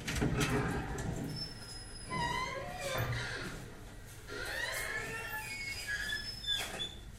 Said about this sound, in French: C'est à cause de chez l'orthopédiste. Ah oui, je reconnais la porte. Oui. Elle grince.